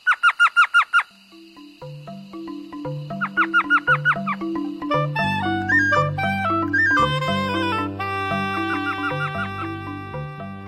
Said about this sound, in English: But spring comes early to the desert, and the minuscule owls return by late February or March, ready to begin their breeding season.